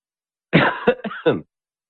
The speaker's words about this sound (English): Hear that cough? Oh, my goodness gracious me. I sounded like I was a mustard gas victim yesterday.